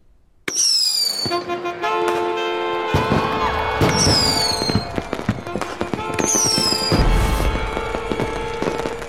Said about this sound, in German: Berli hatte nicht zu viel versprochen. Seine polnischen Böller, die während der Tell-Vorstellung gezündet wurden, rissen das Publikum von den Sitzen.